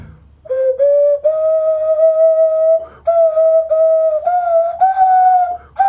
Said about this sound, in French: Qu'est-ce que c'est ? C'est un instrument de musique. J'ai pas eu le temps de le voir. C'est un sifflet à nez.